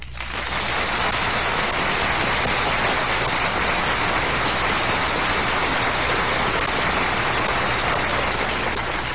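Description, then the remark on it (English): A studio audience applauds steadily for about nine seconds, a dense, even wash of clapping that stays loud throughout with no voices over it. “Your applause tells us you have enjoyed our little story, and we are certainly grateful for it.”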